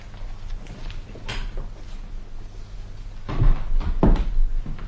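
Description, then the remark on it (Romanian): A side door is opened and shut: a light click of the latch, then a couple of heavier wooden knocks and a thud as it closes, with no one speaking. “Și acum rog să ieșiți pe ușa asta laterală.”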